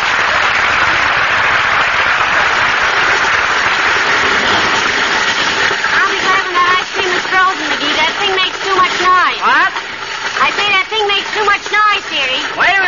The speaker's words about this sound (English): he could jolly well spend the afternoon turning the crank of the freezer. And now with the drugstores so short of congealed cow juice, we find history repeating itself in the kitchen of 79 Wistful Vista, the home of Fibber McGee and Molly.